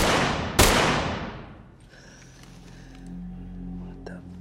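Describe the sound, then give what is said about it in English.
Two sharp pistol shots crack out in quick succession as a cop fires into a lobby window, leaving small cracks around the bullet holes in the glass; the first shot booms and the second is a sharper snap, their harsh echoes fading over a second into a low, steady hum with faint tonal sounds. “The cop pulls out his pistol and fires into the window, creating small cracks around bullet holes.”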